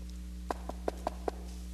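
Five quick knocks rap out in a steady rhythm, like knuckles on a wooden door, over a low electrical hum with no voices.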